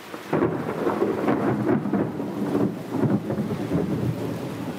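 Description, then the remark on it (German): Loud thunder rumbles and cracks through a heavy thunderstorm over Rome on 18 July 1870, with lightning flashing around St. Peter's Basilica, a continuous deep roll with surging peaks and steady rain hissing beneath, powerful, with no voices. “Juli 1870 tobt ein heftiges Gewitter und taucht die ewige Stadt in nachtschwarze Dunkelheit. Der Donner kracht, Blitze umzucken den Petersdom.”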